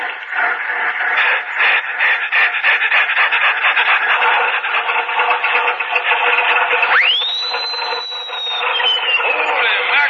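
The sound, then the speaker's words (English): An old Stutz Bearcat car motor starting up, a loud rough rattling chug that runs steadily, then a high squealing whine sweeps sharply upward and holds over the clatter. “Listen to that Bearcat motor.”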